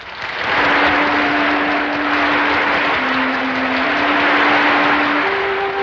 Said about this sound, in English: Wanda enters to applause, says something witty.